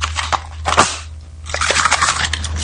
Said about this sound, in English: But first off, should we have another Christmas cracker? We ready? I'm going to try and make it louder this time. Hang on, here we go.